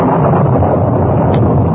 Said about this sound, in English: By the time they reached the horses, wind began to blow strongly and lightning crackled around them.